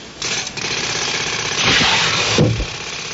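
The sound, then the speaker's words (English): Steady city street traffic noise heard through an office window, a dense rumble of engines with a rattling, jackhammer-like clatter, swelling louder midway and then easing slightly. No voices. “And the traffic on the streets.”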